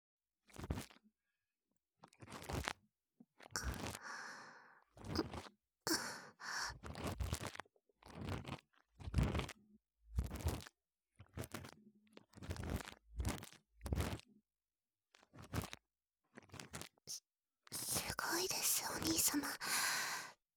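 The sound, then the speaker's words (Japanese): Crisp scissors snipping right up close in the ear during ear cleaning, a dozen or so sharp cuts in an uneven rhythm with short pauses between, ending in a longer rustling stretch. “それでは、まずはハサミからお耳の中、失礼いたしますね。”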